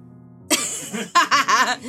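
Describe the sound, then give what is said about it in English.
Someone coughs in a series of harsh, breathy bursts: one rough cough, a brief pause, then several quick ones in a row. “keep trying to cough.”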